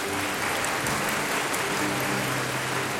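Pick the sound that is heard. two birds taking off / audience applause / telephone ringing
audience applause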